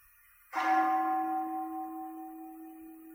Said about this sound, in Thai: ฟังเสียงระฆังซิได้ยินไหม